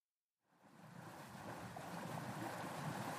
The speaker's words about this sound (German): Das Wetter ist nach wie vor schlecht, immer wieder dringen Wellen und Wasser in das kleine Beiboot.